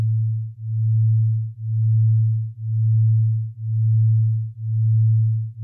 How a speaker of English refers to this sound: Binaural beats are what happens when you take two steady tones with slightly different frequencies, so less than 40 hertz between them, and you play one through each ear. So when you listen to both of these tones, you start to hear them wobbling,